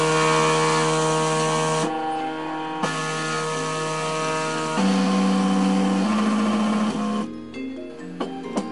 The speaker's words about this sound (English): Every time the printer is operating, it still draws my attention. It's still mesmerizing to me.